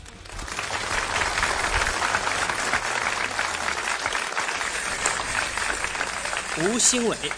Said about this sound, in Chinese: 好，掌声有请二号选手有请。